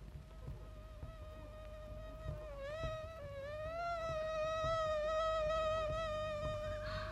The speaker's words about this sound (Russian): Что это? Комары? Да-да. На смену мухам прилетели комары. Господи! Они ни на минуту не умолкали. Зудели и кусались. Кусались и зудели.